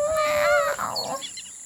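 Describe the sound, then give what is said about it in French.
A tiny, feeble roar from Léo the lion cub as he learns to roar, more a thin squeaky mewl than a growl, lasting under a second and trailing off into faint breathy noise, with no talking. “Il a le trac, il respire un bon coup et rugit... un petit...”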